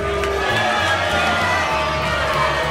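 crowd booing

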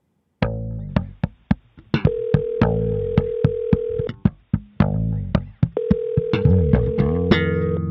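telephone dialing and ringing

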